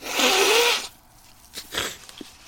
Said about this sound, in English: So I'm going to have to blow my nose again. Hang on, here it comes.